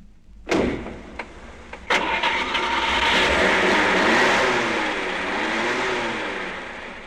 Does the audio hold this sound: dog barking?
no